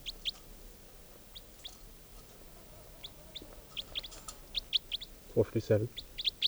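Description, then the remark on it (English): Two birds call back and forth: quick, high chirps repeat throughout, joined near the end by a louder, lower clucking burst, all over a steady background hum. “Both birds.”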